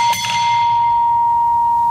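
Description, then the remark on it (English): A gas station driveway bell, rung when a car drives over a hose, rings out with two quick dings close together, then a bright metallic tone that lingers and slowly fades, heard alone and fairly loud. “You don't see these anymore, but gas stations used to have this like hose. Oh, you drive over and make I've the bell ring.”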